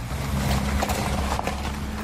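Steady rumble of car traffic rolling over loose stones on an ordinary, non-cobbled street in the El Quirinal neighbourhood, where part of the road surface has broken up. A continuous low drone with scattered crunching, rattling bursts from stones under the tyres, fairly loud throughout.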